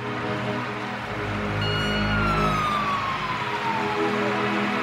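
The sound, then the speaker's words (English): A fire truck coming out of a fire station wails its siren over a steady low rumble of traffic, its tone sweeping high and then sliding downward as it passes, with no voices present. “As I went by the fire station, fire trucks are coming out.”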